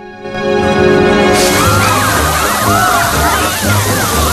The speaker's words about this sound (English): Water pours down over the guests waiting in the church.